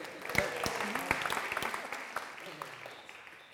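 An audience claps in a steady, dense round of applause for a man who has just been told to sit down. It stays fairly even for a few seconds before gradually thinning and fading, with some murmuring mixed in.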